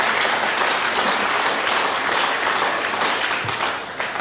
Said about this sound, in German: Yes, das ist ein Applaus wert. Genau.